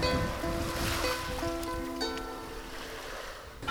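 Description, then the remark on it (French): A steady, rushing wash of ocean waves on a shore at Barceloneta on a moonlit evening, constant, with faint tonal hums drifting in the background and no one speaking. “J'aime ce calme, cette odeur, le bruit des vagues, la chaleur.”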